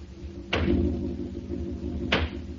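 Two loud, heavy knocks on the wooden headboard of a bed, spaced well apart, each a dull booming thud that rings briefly over a steady low background hum, with no voices.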